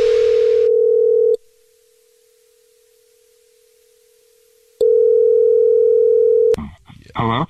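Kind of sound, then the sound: signal or alarm, telephone dial tone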